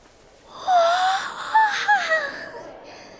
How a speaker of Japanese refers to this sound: まあ大きなあくび、どうかしたんですか？ いや、ライブの動画に夢中になっちゃって、気づいたら朝になってて。